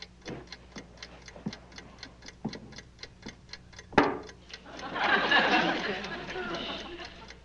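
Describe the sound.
A mechanical timer ticks steadily and evenly, a fast regular clicking that keeps going as a voice begins talking over it partway through.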